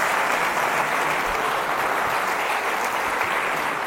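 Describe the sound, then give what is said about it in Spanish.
A crowd claps steadily and loudly for Jesus, a dense, continuous wash of many hands applauding together without a break, no speech over it. “Denle un aplauso a Jesús, que es nuestra palabra, que es nuestra esperanza.”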